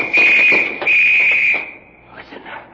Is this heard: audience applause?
no